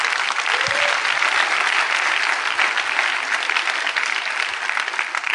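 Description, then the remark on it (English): A crowd claps steadily for shepherds, a dense wash of applause holding at an even level from start to finish, with no voices standing out above it. “Clap for shepherds.”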